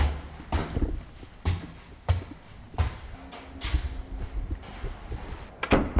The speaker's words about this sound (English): One flight up a set of creaky wooden stairs of this graffiti-marked building in Austin is the Brazilian Workers' Center.